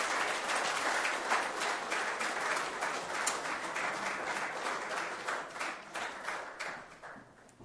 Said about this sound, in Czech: Tak můžeme dětem ještě jednou zatleskat a děti můžete jít.